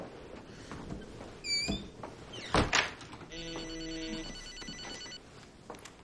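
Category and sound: signal or alarm, phone ringing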